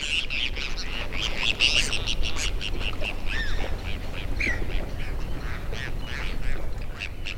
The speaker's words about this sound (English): Like another kind of angler, seagulls! Well, actually, Bonaparte's gulls. In these recordings, we hear them calling back and forth and plunging into Beaver.